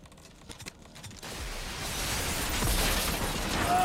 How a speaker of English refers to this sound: then turns and jumps down onto a glass roof. He straightens up and looks down to see the glass fracture beneath him.